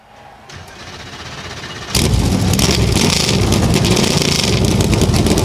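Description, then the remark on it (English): NASCAR race car engines fire up on pit lane at Michigan International Speedway before the Firekeepers Casino 400, after the command to start engines: a low rumble building for two seconds before jumping abruptly into a loud, sustained roar of many engines idling together. “Engines come to life on the pit lane.”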